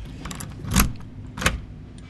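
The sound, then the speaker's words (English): A bunch of keys to a condo in Sarasota, Florida, jangles in two short, bright shakes about half a second apart, with faint metallic clinks between them and a low hum underneath. “So you still have keys? Oh, yeah.”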